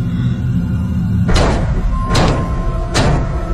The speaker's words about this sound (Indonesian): terdengar suara benturan di tembok itu lagi.